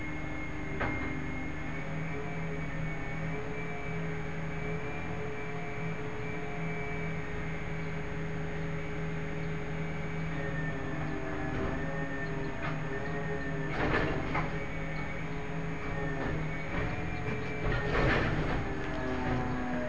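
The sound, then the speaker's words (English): A garbage truck outside: its engine drones steadily with a low rumble and a faint tonal whine, broken by two louder rushing, clattering bursts toward the end. No one speaks. “Is that a garbage truck?”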